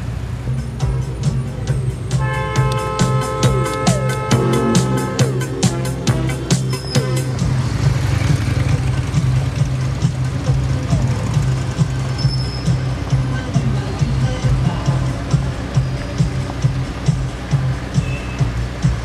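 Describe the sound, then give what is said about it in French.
A car engine hums steadily as the vehicle drives, a continuous low rumble with road noise that stays fairly loud throughout, with no one talking. “Si vous voyez des pauvres gens gelés, épuisés, faire du stop, pourquoi ne pas les inviter à faire un bout de chemin avec vous dans votre voiture ?”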